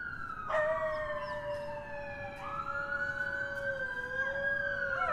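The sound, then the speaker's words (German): Loud emergency sirens wail steadily in New York while coyotes, a pair that roams Central Park, howl along in long, gliding tones that rise and fall over the siren, several voices overlapping, with no talking. “Laute Sirenen und Kojoten, die dazu heulen.”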